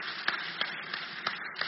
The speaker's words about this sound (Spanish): Y damos un aplauso fuerte al Señor. Gloria a Dios.